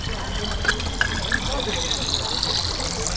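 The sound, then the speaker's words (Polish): Water gushes steadily from the hose of a volunteer fire brigade (OSP) tanker from Izabitowa into a bottle, a continuous rushing pour whose tone climbs as the container fills, with faint voices murmuring in the background. “Pan, tę butelkę. Dobrze, już nalewamy.”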